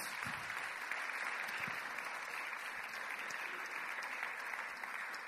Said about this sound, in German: Merci vielmals euch zwei. Nachher Applaus.